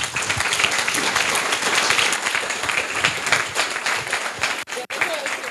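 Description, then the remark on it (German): Sustained applause from an audience for the project group Smart Hut, a dense wash of many hands clapping at steady loudness, with a brief dip near the end. “Ein Applaus für die Gruppe Smart Hut.”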